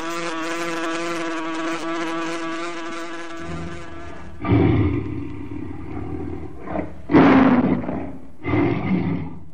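A steady, buzzing drone gives way to three loud, rough lion roars in short succession, each a deep, growling burst with brief pauses between them.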